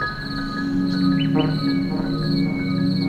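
Nightingales sing in quick, varied phrases over a steady, continuous trill of chirping crickets, with a low background rumble, outdoors at the roadside in the Pyrenean foothills.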